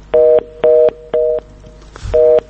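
A telephone busy tone beeps in short, evenly spaced bursts, four loud pulses with a brief gap and a soft thump before the last one, heard alone without any talking.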